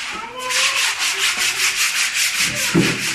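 A woman scrubs a public toilet with a stiff brush in quick, steady back-and-forth strokes, a loud, hissing rasp repeating about three times a second with no voices.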